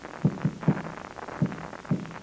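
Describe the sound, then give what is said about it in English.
A handful of muffled, dull taps knock through a wall from the next room, an SOS signal in Morse code, spaced irregularly with short and longer gaps, faint against a quiet hum, no voices. “That was the signal SOS.”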